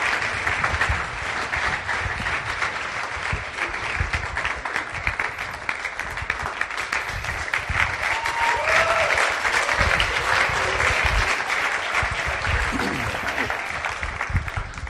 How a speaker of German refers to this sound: Ein Applaus bitte für den Clarion.